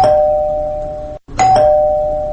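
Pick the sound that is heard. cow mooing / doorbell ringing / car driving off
doorbell ringing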